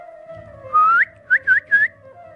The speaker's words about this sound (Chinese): 接着他吹了三声口哨，马上就有几个人冲进教堂。